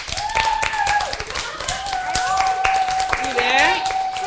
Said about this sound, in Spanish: Han de fer un aplaudiment molt gros en el set, eh?